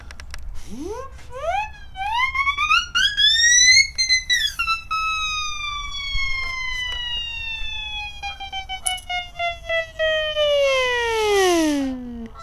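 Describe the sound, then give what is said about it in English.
A loud siren is played outdoors toward a couple of mallard ducks on the far side of a pond where geese are swimming. Its wail climbs steeply in pitch, then glides slowly downward over about twelve seconds in one long sweep, with no voices present. “Let's give them the siren.”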